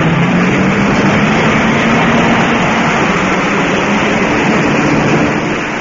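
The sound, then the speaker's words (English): Loud, dense roar of several rally car engines revving together at the start of the Monte Carlo Rally, each waiting for its signal to go, a continuous wall of mechanical noise that holds steady and eases slightly at the very end as the first car pulls away. “All the cars are revving up, each waiting for his signal to go.”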